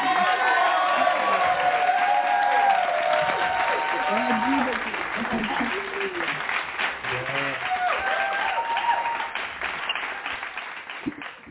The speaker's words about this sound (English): And we're going to welcome her. Thank you. With a hand clap. Praise.